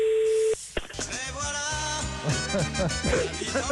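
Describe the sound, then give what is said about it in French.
A short, steady electronic telephone ringing tone of a call placed live on Europe 1 radio to Michel Sardou sounds for about half a second, then cuts off as loud, busy music with a strong beat takes over. “Oh, c'est la sonnerie, ça.”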